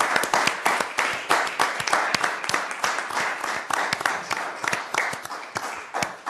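A crowd applauds the Cleveland Metro Parks team for its 2025 National Procurement Institute (NPI) Achievement of Excellence Award, many hands clapping in a dense, continuous patter that stays fairly loud and even throughout, with faint voices mixed underneath.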